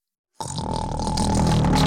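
After a brief silence, a loud, rough snore erupts and holds for over a second, a low rattling rumble with harsh raspy overtones that grows slightly louder as it goes.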